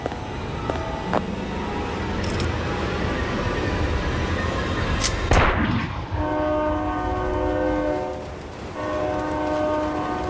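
A train rumbles along with steady rolling noise, then a sharp clank is followed by a long, loud multi-tone horn blast that holds for several seconds, dipping briefly before sounding again.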